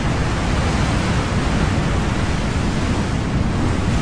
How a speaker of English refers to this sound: And number one is almost the exact same thing. Waves on rocks.